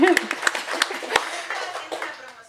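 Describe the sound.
A round of applause from a small group, with sharp, irregular hand claps over a steady patter that gradually softens, while a voice speaks briefly at the start.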